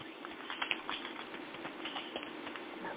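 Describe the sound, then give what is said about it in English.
A steady papery riffle of a crystal card deck being shuffled for a general reading, a dense stream of quick soft flicks and taps that runs continuously for a few seconds with no one talking. “So I'm shuffling.”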